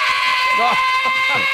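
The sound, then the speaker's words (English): A rock singer's raspy, strained scream rings out loud over dense, bright music, held with a wavering pitch for about a second and a half. “That's his new single, actually.”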